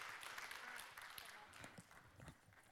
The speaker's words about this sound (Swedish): Jättebra. Tack hörni. En stor applåd.